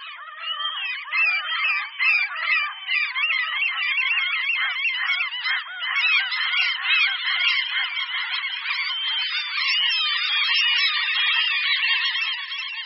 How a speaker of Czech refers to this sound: Racek bouřní, ten je o něco větší než náš velice dobře známý druh racek chechtavý. Na rozdíl od něj nemá červené nohy ani červený zobák, naopak jeho nohy i zobák jsou žluté nebo žlutavě zelené. Taky nikdy nemá nic černého na hlavě.